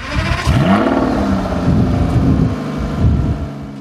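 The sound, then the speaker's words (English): A car engine cranks and fires into life, then revs several times in loud bursts of rising and falling pitch before settling into a steady idle. “I think we should end now with hearing the car start up.”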